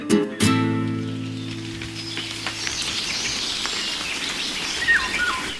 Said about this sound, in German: Leute, es ist soweit, es regnet. Und zwar schon einige Zeit. Ich habe heute draußen geschlafen, musste mein Nachtlager abbrechen. Denn es wurde nass, nasser und noch nässer.